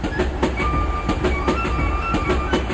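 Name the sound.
train running on rails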